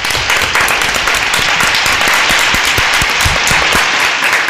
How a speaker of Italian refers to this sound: siete stati bravissimi, anche per voi, assolutamente, applausino.